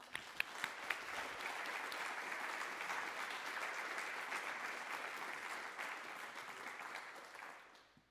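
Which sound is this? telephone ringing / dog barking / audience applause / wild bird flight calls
audience applause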